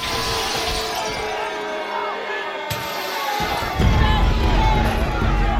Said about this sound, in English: He smashes the axe through some block glass on the side of the building.